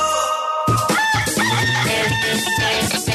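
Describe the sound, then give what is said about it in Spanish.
A loud rooster crow rings out, blended with a dense, punchy burst of music that starts abruptly after a brief quieter lead-in, in a jingle for the weekend edition of the radio show El Gallo on Radioactiva. No one speaks. “Llega el gallo fin de semana.”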